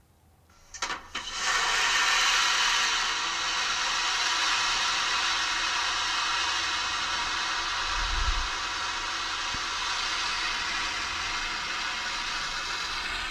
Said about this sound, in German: Ja, Flugzeugtoilette ist schon nicht schlecht. Und ich finde auch, es klingt wie eine Klospülung.